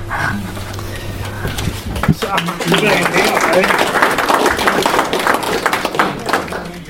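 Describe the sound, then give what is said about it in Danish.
A room full of people at an association meeting breaks into sustained applause after the board's report, dense overlapping claps filling the space for several seconds at a steady, fairly loud level after a brief lead-in of background murmur. “Jeg regner med, at med klapsalmen, så regner jeg med, at man har taget styrelsens beretning til efterretning, fordi det er det, man gør her i den her forening her.”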